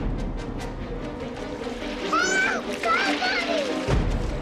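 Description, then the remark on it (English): Water splashes steadily while a young girl's high, strained cries rise over it in two short bursts as she struggles in a swimming pool after trying to reach a ball she dropped in it. “She struggles in the water.”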